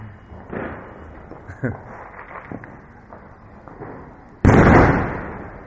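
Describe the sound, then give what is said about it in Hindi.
Firecrackers burst outside, popping a few times over a noisy background with faint voices, then one loud burst erupts near the end and its rumble lingers. “तो क्या करेंगे इस पटाखा के बीच?”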